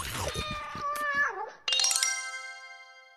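A cat meows loudly, its drawn-out cry sliding downward in pitch, then a bright ringing chime-like tone sounds and slowly fades.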